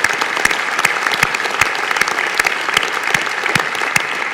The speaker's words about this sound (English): So we're rejoicing with them. Let's just give them a hand clap. We welcome them as they've come back here.